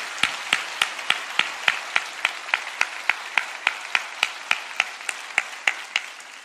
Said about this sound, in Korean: 다시 한번 하나님께 영광의 박수 올려드리겠습니다.